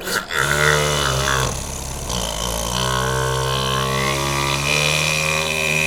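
A vacuum cleaner is played as a musical instrument: a loud, continuous motor drone with a low buzzing hum whose pitch bends and wavers midway, with a short sharp hit at the start.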